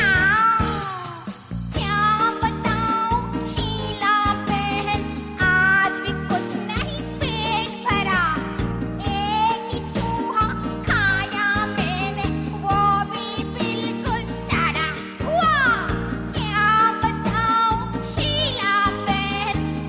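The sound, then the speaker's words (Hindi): Several cat meows, with rising and falling cries, come at intervals over a steady, bouncy musical backing that plays loudly and continuously throughout. “बिल्ली मासी क्या है, कहो कहाँ से आई हो, क्यों तंग करती हो, कितने चूहे मारे तुमने, कितने खाकर आई हो।”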